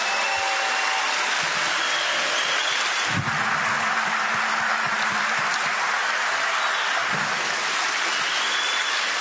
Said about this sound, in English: But these men and women in the Secret Service who travel with me, and the military people, they are amazing. Yeah. And I really appreciate you giving them a round of applause. They're right over here.